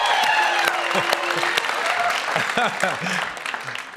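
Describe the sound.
A light smattering of applause from a small group, scattered claps blending with murmuring voices and chatter throughout, fading slightly toward the end.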